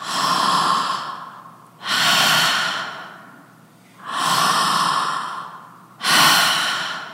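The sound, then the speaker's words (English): A voice imitates heavy, strange breathing: four loud, raspy breaths alternating in and out at a slow, steady pace, with no talking. “breathing pattern is totally different.”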